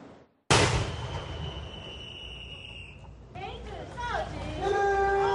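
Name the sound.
21-gun salute cannon fire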